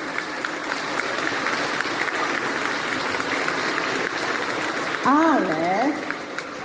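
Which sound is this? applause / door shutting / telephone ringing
applause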